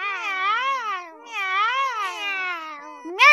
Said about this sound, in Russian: Мяу, мяу! Тише, тише, мои красавицы! Эх, вы мои хвостастенькие!